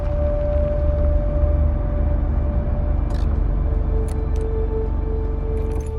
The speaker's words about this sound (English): He turns the keys in the ignition, then stares pensively forward.